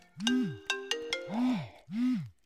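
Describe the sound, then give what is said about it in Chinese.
An electronic phone ringtone for an incoming call plays alone: a few sharp, bright melodic beeps followed by two rising-and-falling swooping tones, loud. “这个时候，谁这么讨厌打电话过来？”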